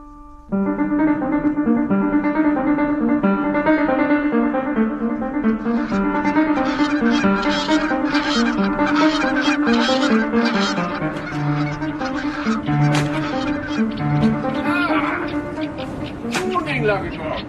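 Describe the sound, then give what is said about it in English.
A flock of ducks calls while flying overhead, a loud, dense chorus of overlapping honking quacks that runs continuously, with no clear gaps, throughout. “Do you ever tire of ducks? You mean in my diet? I mean flying over.”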